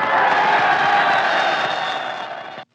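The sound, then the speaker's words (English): A large audience cheers and whistles loudly as a female entertainer is introduced, a dense, steady roar with shrill whistles riding on top, held for a few seconds before cutting off abruptly. “You look so lovely, I couldn't help cheering and whistling.”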